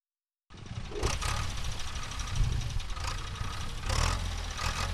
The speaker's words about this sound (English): That is a tractor at Jalukange Irrigation Scheme near Zimbabwe's border with Botswana, about 600 kilometers south of Harare, tilling the land for farmers to plant crops.